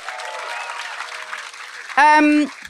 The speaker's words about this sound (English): Oh, we've got some movement. We've got some movement. A round of applause for the movement.